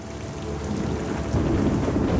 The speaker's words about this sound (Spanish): Sus impermeables débiles no soportan el diluvio. Y pronto están empapadas. Cuando la lluvia te empieza a mojar el cuello, tus piernas están mojadas.